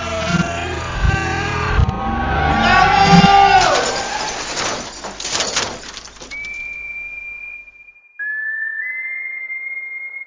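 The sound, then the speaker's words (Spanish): A car drives by, its engine roaring with rising and falling tones for several seconds, then fades out and leaves only steady, high-pitched whistling beeps. “Dale, pasame a buscar en el auto.”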